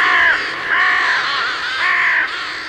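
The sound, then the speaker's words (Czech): Harsh, drawn-out raven caws repeat in a loose rhythm, three or four loud calls with no talking, overlapping slightly as several ravens call together while flying home from hunting. “Netrvalo dlouho a bratři krkavci přiletěli z lovu domů.”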